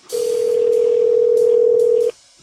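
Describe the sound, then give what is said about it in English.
A steady, loud telephone dial tone hums continuously for about two seconds as a recorded phone call is placed to the phone number on an ad, then cuts off abruptly, leaving faint line noise and a few soft clicks. “And at that time, I posed as an undercover customer and placed some recorded phone calls to the phone number on that particular ad.”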